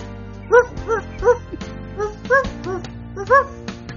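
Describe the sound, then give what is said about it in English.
A voice imitates a dog barking as an introduction, giving a quick series of about six short, yappy barks in an uneven rhythm, fairly loud over a low, steady background hum. “Remember you had a little barking thing you did to introduce.”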